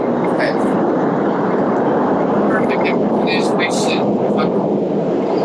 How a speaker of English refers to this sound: Let the train finish. It doesn't start. All right. This is being part of the language. Yeah, we'll let the train finish.